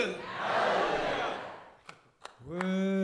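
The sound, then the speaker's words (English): A concert crowd roars and cheers loudly as a gospel group opens its set, the noise fading into two sharp claps before a sustained, harmonically rich singing voice rises over the remaining crowd sound. “you can hear the crowd responding to them right from the start.”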